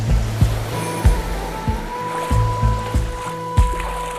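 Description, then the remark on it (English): Ocean water sloshing against a beach in Brighton at night in steady, rhythmic surges about every half second, each with a soft low thud, under a faint constant hum. No one speaks. “So it was no wonder that I found myself on a beach in Brighton, in the middle of the night, about to run into the water, completely naked, with a friend of mine.”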